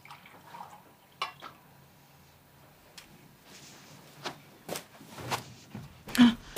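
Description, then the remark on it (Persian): Water drips and splashes in a quiet, irregular series of soft bursts, a few sharper ones near the end, with faint background noise and no talking: water being brought and poured for a woman to drink. “ام عبیده براش آب میاره.”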